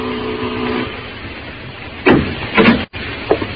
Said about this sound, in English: At the head of the stairs, the door marked manager. I rang the bell.